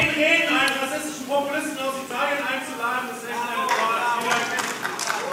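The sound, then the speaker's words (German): An audience erupts in protest as Italian Culture Minister Alessandro Giuli begins his speech, several raised voices shouting and jeering over one another in a steady, agitated clamour with occasional scattered claps. “Als er seine Rede begann, gab es Protest.”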